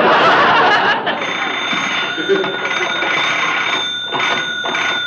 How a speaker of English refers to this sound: There's the phone. That must be him now.